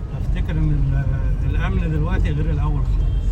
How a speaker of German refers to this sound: Er lenkt sein Auto weg vom Tahrirplatz, weg von der Politik, die seinem Land kein Glück gebracht hat. Er fährt zum Abschluss seiner Tour dahin, wo er selbst am liebsten ist.